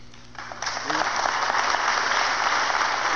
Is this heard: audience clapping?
yes